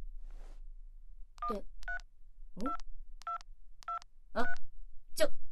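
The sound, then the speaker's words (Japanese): A phone number is dialed: a run of about eight short, evenly spaced two-tone keypad beeps, clear, with a few brief rustles and clicks of handling mixed in between. “あんた、一体どこに電話かけようとしてるんだい？”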